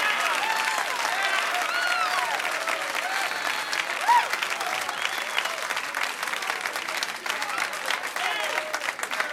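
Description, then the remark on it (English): Sustained audience applause for one-liner comedian Kenny Youngman fills the whole stretch, a dense, steady wash of many hands clapping, with faint cheers and murmurs mixed in. “What a crowd.”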